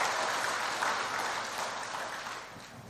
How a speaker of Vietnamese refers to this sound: Nếu các anh chị thấy rằng là những lời dạy này là rất có ý nghĩa đó, thì hãy cho một tràng vỗ tay thật lớn để cam kết làm.